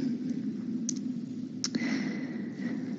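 A few sharp, close keyboard clicks at irregular moments, spaced apart rather than a rapid stream, over a steady low background hum with no one talking.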